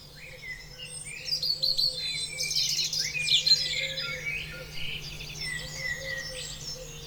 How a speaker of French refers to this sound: On va prendre le temps de se réveiller ensemble avec des chants d'oiseaux. Comme si on ouvrait sa fenêtre et qu'on laissait la vie rentrer tranquillement.